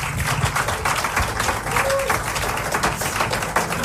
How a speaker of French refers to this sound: Applaudissements.